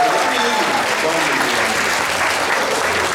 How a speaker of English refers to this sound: Well, it looks great. Big round of applause for Yuka.